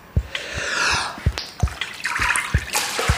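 Water in a hotel pool of about 8 degrees sloshes and splashes in irregular bursts as a person in a thick wetsuit floats and dives, with soft low thumps as they move through it, over a steady watery wash with no talking.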